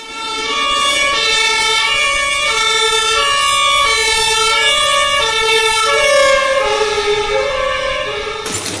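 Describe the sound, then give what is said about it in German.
A loud two-tone mine rescue alarm siren, triggered at the Hauptstelle für das Grubenrettungswesen (central mine rescue station) in Herne for an alarm at Walsum, alternates steadily between a high and a lower pitch, repeating for the whole stretch without pause, with no voices present. “Ich habe einen Alarm auf Zellberg-Walsum und Näheres kann ich noch nicht sagen.”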